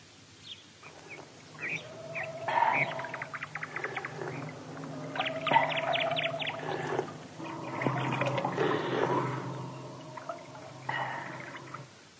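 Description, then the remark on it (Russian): A spring of clean water flows and pours in a steady, gurgling stream, moderately loud, with scattered bird-like calls over it and no one speaking. “Родник с чистой водой.”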